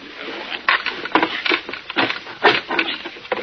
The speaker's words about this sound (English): Well, this screwdriver isn't very sharp, but I think I can chisel enough of this door jamb away to get the lock. That should work.